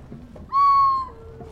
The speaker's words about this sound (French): Et puis attendre. Attendre que l'oiseau se décide à chanter.